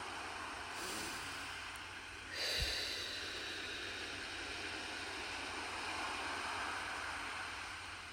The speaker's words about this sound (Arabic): خلي صوت الموج ياخدنا ويجيبنا بكل أمان نحن وقاعدين على الشط.